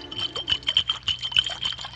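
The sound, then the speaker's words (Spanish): Liquid sloshes and gurgles inside a bottle being shaken, a quick rhythmic series of splashy, bubbly bursts with no voices. “Botella, porque las burbujas chocan unas con otras.”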